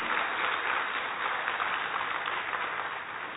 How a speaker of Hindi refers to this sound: तो दीदी आपका बहुत बहुत धन्यवाद, आपने अपना बहुमूल्य समय में से अपना समय निकाल, जोरदार तालियां दीदी के लिए।